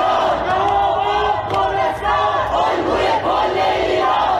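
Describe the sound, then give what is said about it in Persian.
A large crowd of protesters in Iran shouts and chants the name Kurdistan together in a continuous, loud roar, many voices blending into overlapping cries with rhythmic swells, with no single speaker standing out. “شهرهای کردنشین ایران ملتهب ماند و معترضان در شهرهای مختلف ایران نام کردستان را فریاد زدند.”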